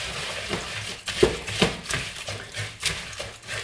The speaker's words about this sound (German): Wasser hier schön unterrühren. Sensationell, jetzt wird es schon richtig ein schöner Teig. Jetzt kommt der Rest von meinem Wasser.